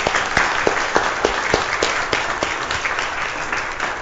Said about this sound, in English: So they have asked that I do not let anybody know who it is. So we all going to clap, every one of us, including them.